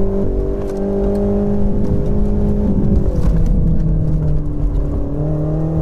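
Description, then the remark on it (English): A race car engine roars steadily and loudly, recorded from the passenger seat, its pitch shifting slightly as it dips and climbs again while the car zooms around corners, with no voices. “That was done by sitting in the passenger seat, clutching onto the seatbelt and the handle by the door, zooming around corners.”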